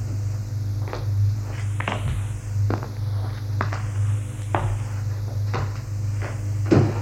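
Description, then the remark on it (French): A desk drawer is handled and rummaged through, with a series of irregular clicks, knocks and rattles over a steady low hum, moderately loud, with no voices; small ampoules are found in the drawer of an office desk. “Et a trouvé les ampoules dans le tiroir de son bureau.”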